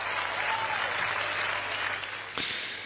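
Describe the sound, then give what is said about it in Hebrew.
An audience claps in a steady, dense wash of applause that fills the whole stretch, easing slightly near the end after a brief sharp accent, with no one speaking over it. The applause follows a stand-up bit by comedian Avi Nussbaum about vegan weddings. “כפיים לטבעונים!”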